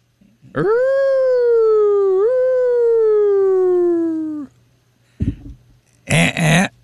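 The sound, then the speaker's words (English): A person imitates a roar with one long, drawn-out, loud howl lasting about four seconds, its pitch sagging slightly toward the end, followed by a couple of short, rough vocal bursts. “So now I just do. And yours. Roar.”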